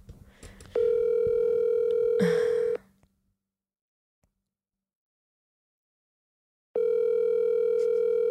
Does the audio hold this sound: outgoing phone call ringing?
yes